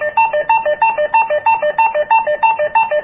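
A walkie-talkie call ringtone trills loud, two electronic tones alternating rapidly in a steady warble that repeats for the full length with no voices, sent to the other walkie-talkies by pressing the bottom right button on a walkie-talkie.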